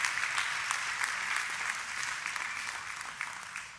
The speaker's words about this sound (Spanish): Entonces, si usted es un padre, póngase de pie. Todos los papás, un fuerte aplauso a estos hombres que día tras día trabajan para sostener a su familia.